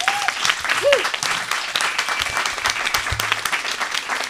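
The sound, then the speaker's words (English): An audience at Ars Electronica applauds a panel steadily, a dense wash of many hands clapping at an even, fairly loud level for several seconds, with faint murmurs and a brief tonal whistle-like sound mixed in. “So a big applause for the panel, please.”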